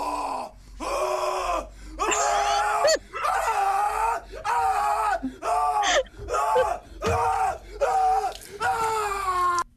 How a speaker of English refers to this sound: And he walks to the bathroom where he grabs fucking vodka and just starts fucking chugging it to the face and screaming.